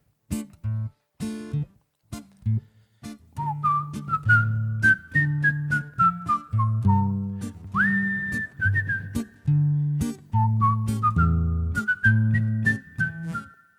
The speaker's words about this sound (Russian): Ты что, мой друг, свистишь?